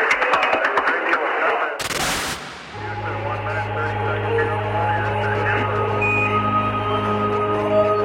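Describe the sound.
The Houston press room applauds as the first television image of Armstrong arrives, heard through a crackly radio broadcast with voices over it; the clapping bursts loudly, then gives way to a steady electronic hum and murmuring.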